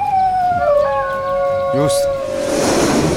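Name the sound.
dingo howling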